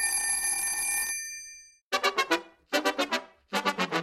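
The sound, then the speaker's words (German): A school bell rings as everyone heads back to class: first a steady, bright tone held for about a second, then three loud bursts of rapid, rattling rings separated by short pauses, with no one talking. “Danach klingelte es und alle gingen wieder zurück in den Unterricht.”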